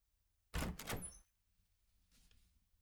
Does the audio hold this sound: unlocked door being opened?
yes